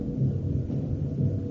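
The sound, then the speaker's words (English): A deep, continuous low rumble like thunder, coming from outside a ship, rolls steadily without breaks and with no voices over it. “That's coming from outside. A storm might... A storm might.”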